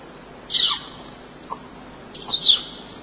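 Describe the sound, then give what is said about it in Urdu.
Two short, shrill whistles blown by a person, separated by a pause of about a second and a half, each sliding slightly in pitch, with a faint click between them. “سیٹیاں کیسے بجاتے؟”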